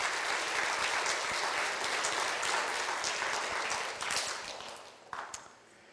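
A church audience applauds to welcome a newcomer to the church family, with dense, steady clapping that holds loud for about four seconds, then thins out and tapers off into a few scattered claps before fading.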